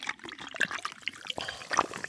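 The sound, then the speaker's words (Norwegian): Fizzy light-pink Monster Pipeline Punch energy drink being poured into a goblet glass full of ice cubes, a continuous bubbling splash with small bright clinks of ice cubes shifting, lasting about two seconds with no talking. “Hører du lyden? Den elter seg sammen med isbyttene.”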